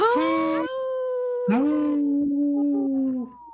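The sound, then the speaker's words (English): People on the radio show Native Roots Radio Presents I'm Awake imitate wolf howls: long, sustained, wavering tones, with a second voice joining partway through with a rising swoop before holding a lower pitch. Fairly loud, with no talking. “Wow, we should record that one and use that one forever.”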